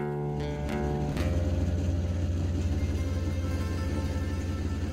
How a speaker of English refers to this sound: Then, we sat in more traffic.